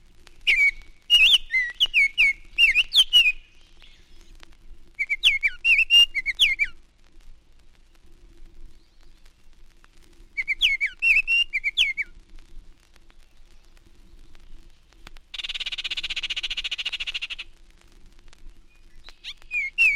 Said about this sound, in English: Baltimore Orioles' loud, clear whistles fill the campus elms during May and early June. The chatter and whistles of the female also can be heard.